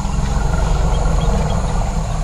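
Elephants rumble in a forest clearing, a loud, deep, continuous low drone that holds steady for the whole stretch, with no voices.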